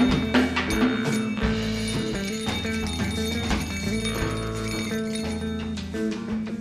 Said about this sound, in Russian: Напоследок сторож, улыбаясь, дает нам... Ха! Дает нам позвонить в колокольчик!